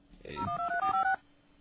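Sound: telephone keypad dialing tones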